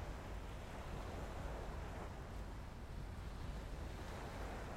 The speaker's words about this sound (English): You walk into the sea, feeling the warm, salt water soothe and refresh you. Your cares drifting away on the gentle waves. You stand and enjoy the sensations of the sea lapping against your legs.